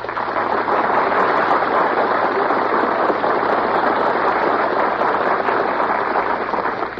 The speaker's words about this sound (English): Now, remember, it's the applause that counts, so please don't whistle or shout. Wait for your favorite, then clap your hands like crazy.